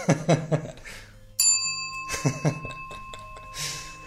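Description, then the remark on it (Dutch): A single sharp ding of a bell on a hotel reception desk rings out clearly, its bright tone lingering and slowly fading while people chatter and laugh around it. “En wat ze zien is een gewone hotelreceptie. Waar ze zich kunnen inschrijven voor de nacht die ze hier komen doorbrengen. Met bel.”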